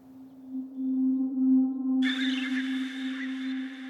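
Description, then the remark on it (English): A deep, steady humming tone, a vineyard trellis wire tone pitched down two or three octaves, rich in overtones, sustains throughout; about halfway, a brighter, hissy upper layer with ringing high pitches joins it. “And so now, when it pitches down two or three octaves, now you have a fundamental tone that actually has this cool, like, simple, compelling sound”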